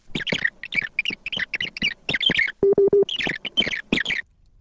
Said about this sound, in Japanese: このテープには説明の区切りごとに次のような信号音が入っています。